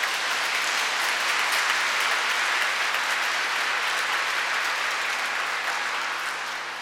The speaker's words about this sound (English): Hallelujah. Clap the hand.